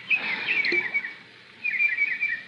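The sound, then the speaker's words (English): Birds playing in a fish pond chirp and twitter in two lively bursts of high, rapid trills separated by a brief lull, clear with no voices. “What's that? Oh, birds playing in the fish pond.”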